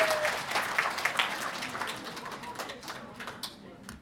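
An audience claps together in a dense, steady patter of many hands, holding fairly even for a few seconds before thinning out toward the end.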